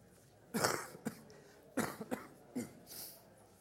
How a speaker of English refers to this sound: It was a good little break for me to cough and take a drink, actually.